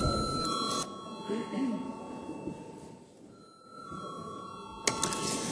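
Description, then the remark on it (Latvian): A steady electronic parliament session bell, rung before a vote on a bill, sounds as a sustained, high, bright tone. It drops out briefly midway, then resumes over a low murmur of voices and a few clicks. “Lūdzu zvanu.”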